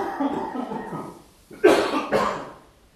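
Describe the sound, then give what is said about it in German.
Two sharp, forceful coughs burst out, one right after the other, following a stretch of low murmuring breathy sound. “Dann husten die raus. Die dürfen niemandem was husten. Bisschen Hustenstöße dürfen raus.”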